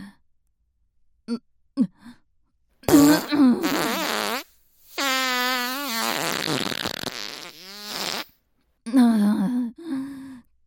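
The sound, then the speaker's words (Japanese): Close, loud farts: a few short pops, then several long, drawn-out, wavering blasts with brief pauses between them and no talking. “臭いおならが坊ちゃまのお顔に直撃して、どうですか、これが私のおならです。”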